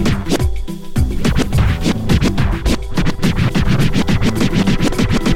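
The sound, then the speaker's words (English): DJ record scratching: quick, rhythmic back-and-forth scratches cut loudly over a steady, bass-heavy beat, with no voices. “And that's how scratching was born.”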